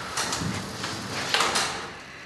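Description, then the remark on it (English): An old elevator's lattice gate slides along its track in a couple of rattling, scraping sweeps, moderately loud, with no voices. “The elevator is an old one with a lattice gate instead of a door.”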